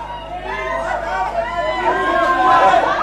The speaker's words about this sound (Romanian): Ce se aude? Strigăte? Huiduieli? Mulțime de oameni s-au strâns și ne întâmpină amenințătoare.